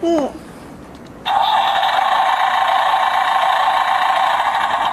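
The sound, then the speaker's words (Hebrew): A short voice at the start, then after a brief pause a loud, steady tractor engine sound kicks in and runs unchanged to the end, tinny and buzzy like a small speaker. “מה זה? טרקטור. טרקטור, נכון.”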